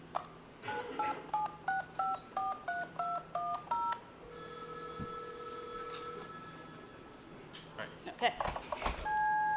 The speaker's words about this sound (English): Why don't you dial them in the regular way just to show the dialing, and then just use the phone and show the dialing first. You'll see the digits being dialed